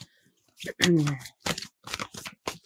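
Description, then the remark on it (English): Papery shuffling of a Fairy Forest oracle card deck by Lucy Cavendish in a few quick bursts with short pauses before a card is pulled, while a voice briefly murmurs in the background. “And I'm just going to have a little shuffle, see what wants to come through.”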